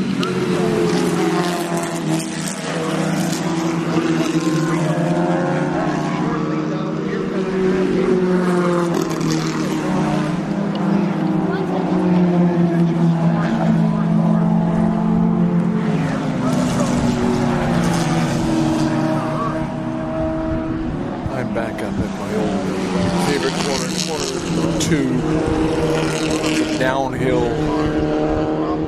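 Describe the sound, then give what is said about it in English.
Engines of vintage race cars, including a leading Porsche 914 and car number 214, roar continuously, their pitch rising and falling as the cars accelerate and pass, loud throughout, with a voice faintly audible beneath the engine noise. “Has put that Porsche 914 around into the lead. Right behind is Ted Michaelis, and then Gord White in car number 214 is part of that battle.”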